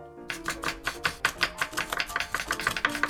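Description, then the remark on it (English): A knife chops baby carrots and potatoes on a cutting board in a quick, steady rhythm of roughly sixteen crisp thuds over three seconds, moderately loud, with no one talking. “Yeah, you can chop the baby zanahorias, and I'll chop the papas or the potatoes, since all the papas are quite a bit bigger than you, buddy.”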